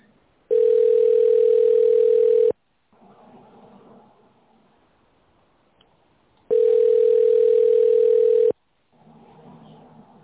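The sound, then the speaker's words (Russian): A telephone ringback tone heard while calling the company Avtomatika Service Group, after a recorded greeting asking the caller to wait for an answer, sounds twice, each a steady mid-pitched buzz lasting about two seconds, with a long pause between filled only by faint, muffled background noise. “Здравствуйте, вы позвонили в компанию Автоматика Сервис Групп. Пожалуйста, дождитесь ответа.”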